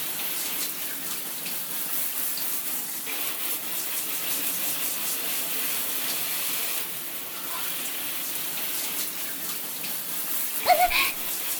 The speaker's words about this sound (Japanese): ほーら、たまたまにもシャワーを当てて、ふーる、ふーる、動かすの。